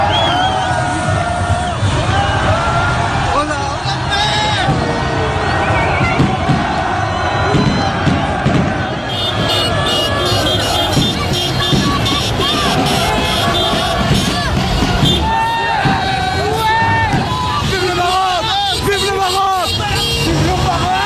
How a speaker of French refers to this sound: Et nous allons entendre d'autres qualifiés très heureux, d'autres supporters surtout très heureux.